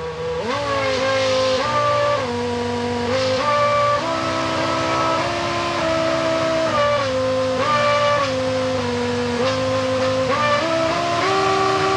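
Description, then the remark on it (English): A real Formula One engine, programmed by the team with a song as a party trick, whines steadily, shifting its RPM in stepped jumps and holding each pitch like a sustained note, so the revving traces out a tune. It stays loud throughout, with no talking. “And also kind of a party trick that some of the Formula One teams were doing for a while was programming in songs into the engine. So the engine would change RPM and hold it there, just like you would do with a musical note.”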